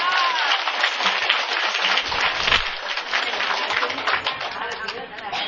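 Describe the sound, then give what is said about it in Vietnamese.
An audience gives a steady, dense round of applause in thanks to a man, fairly loud, sustained for several seconds without pause. “một tràng pháo tay”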